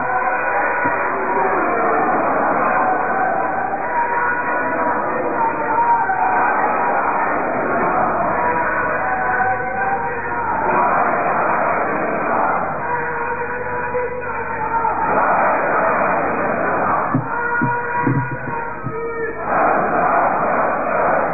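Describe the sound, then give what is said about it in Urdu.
A large crowd chants and shouts slogans together to welcome Professor Ghulam Azam of Jamaat-e-Islami Bangladesh, a loud, continuous roar of many voices swelling in repeated waves for about twenty seconds without pause. “نعرہ لگائیں موزر مہمان کے استقبال کا حق ادا نہیں ہو سکتا. مزید زور سے نعرہ لگائیں.”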